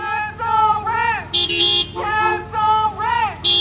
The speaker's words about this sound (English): What was meant to be a long line of cars quickly became a series of many smaller caravans honking through the city.